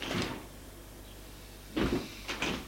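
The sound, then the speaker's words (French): Elevator doors sliding open with a brief mechanical rumble and clunk as the elevator arrives at the third floor and people step out, followed by a couple of soft thuds and scrapes, with a quiet hum in between and no voices. “Arrivés au 3e, ils sortent.”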